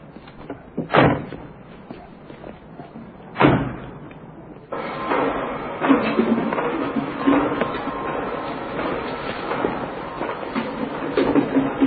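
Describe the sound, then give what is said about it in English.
Two heavy metallic thuds ring out a few seconds apart, then a steady, loud rattling rumble of train cars clattering over rails takes over and continues to the end. “Doctor, every time the train stops, you open the doors, you give them water, yeah?”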